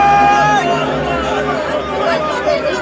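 A crowd shouting all at once, a dense, loud mass of overlapping raised voices with a few higher cries cutting through, steady for the full few seconds without a break.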